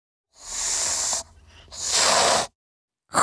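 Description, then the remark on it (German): A cat with arched back, raised fur and lashing tail hisses in two long, harsh breathy bursts, each about a second, with a short pause between, then a third hiss begins abruptly at the end. No one speaks. “Und dann faucht sie.”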